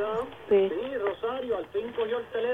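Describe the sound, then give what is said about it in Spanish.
A radio plays behind a phone call, its voice-like sound narrow and tinny through the line, running steadily at moderate loudness with short breaks between phrases. “No bajó radio, Rosario.”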